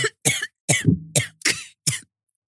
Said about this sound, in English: Yeah. I can't believe he's making you cough like this.